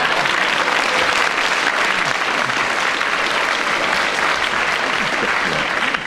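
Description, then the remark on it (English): A studio audience applauds Derek Nimmo at the end of a round, a dense, even wash of clapping hands that stays loud and sustained for several seconds without any voices on top. “So, Derek Nimmo not only talked about feelings, but he demonstrated them to the applause of the audience and increased his lead at the end of that round.”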